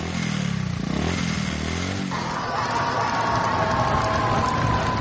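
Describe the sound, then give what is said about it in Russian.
Several motorcycle engines of a motorcade rumble and rev, their pitch rising as they pull in, bringing Ded Moroz (Father Frost) to the Opochka correctional boarding school in Pskov region, Russia, over a dense wash of outdoor noise and faint crowd sounds. “Он приехал в гости к ребятам на мотоцикле в сопровождении мотокортежа.”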